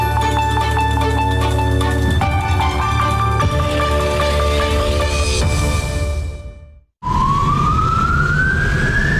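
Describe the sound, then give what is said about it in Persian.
A loud ambulance siren wails over steady traffic noise in a city in Iran during the coronavirus epidemic, cutting off briefly, then a single rising siren tone sweeps upward, continuous with no voices. “آمبولانس های سرگردان در شهر بیمار دارند، ولی بیمارستانی برای پذیرش بیمار نمی‌یابند.”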